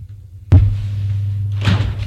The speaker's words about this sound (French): La porte s'ouvre d'un coup,